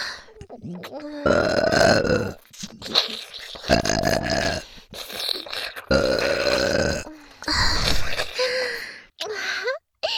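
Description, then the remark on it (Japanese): A series of loud, drawn-out deliberate burps, four long ones in a row, separated by brief pauses, breaths and small vocal noises. “お兄さん、ほんとゲップ好きなんだね。”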